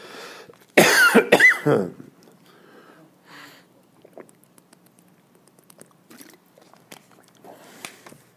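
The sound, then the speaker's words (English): Two or three loud, harsh coughs burst out in quick succession from a person giving a talk, followed by quiet shuffling, small clicks and faint mouth noises. “If I don't get too excited when I talk, I will cough less.”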